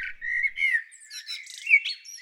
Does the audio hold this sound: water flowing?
no